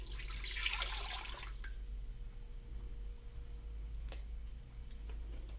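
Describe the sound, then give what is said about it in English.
Water pours into a pressure cooker pot in a steady rushing stream for about a second and a half, then cuts off, leaving a few faint drips and light ticks amid quiet. “So let's fill this with water.”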